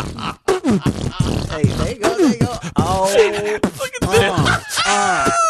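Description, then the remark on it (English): Someone beatboxes: rapid mouth clicks and percussive pops mixed with warbling, gliding hums and buzzy vocal tones, moderately loud and continuous for several seconds, with no other speech. “I used to beatbox in the shower, man.”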